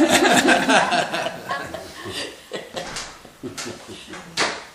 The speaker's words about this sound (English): or just close the door.